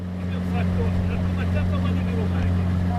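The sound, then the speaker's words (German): A motorboat engine drones steadily on the Valli di Comacchio, the largest brackish lagoon in Italy, its low hum constant throughout, with faint chirping birds and a hint of wind above the motor. “Unterwegs im Motorboot auf den Valli di Comacchio.”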